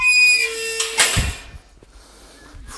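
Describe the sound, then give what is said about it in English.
A squeaky gate on a coastal path creaks open with a drawn-out, high metallic squeal, then swings shut with a solid clank of the latch, with faint outdoor background and no talking. “So, for those who have been here before, you can probably hear the gate. This is the gate on the coastal path.”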